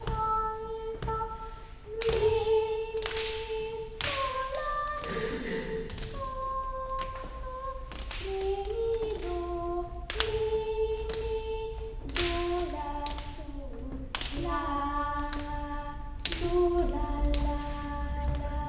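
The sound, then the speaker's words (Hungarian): A group claps a steady rhythm, sharp even claps repeating throughout, while a single young voice sings the ti-ti-ka rhythm syllables in a simple, clear melody over the beat. “Mindenki tapsolja, de ő bátran énekli a titikákat is.”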